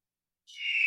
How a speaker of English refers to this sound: There it is. The majestic eagle.